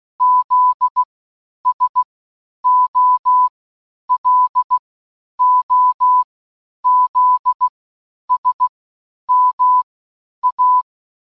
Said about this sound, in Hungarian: Ugye elhangzott egy Morze kód, amit a következőekben le is játszok.